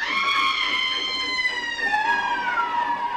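A train whistle sounds as the train begins to move, one long, unbroken wail, shrill and rich in overtones, its pitch sagging slightly downward toward the end. No voices accompany it.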